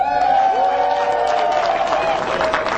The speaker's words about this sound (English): And I see that my son, the groom, is here in the house with his wife. Let's put a big round of applause to welcome them in the house.